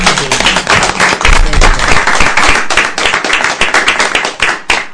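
A crowd applauds steadily for several seconds for a group of girls, a dense, continuous patter of many hands clapping at a fairly loud, even level with no one speaking.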